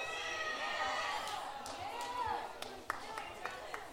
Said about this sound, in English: People are cheering for someone else, for someone else's name tag thingy.